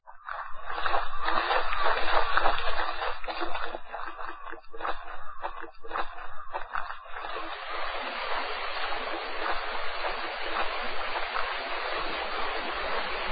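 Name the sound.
river water flowing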